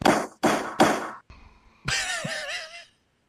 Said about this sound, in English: Banging the gavel over there.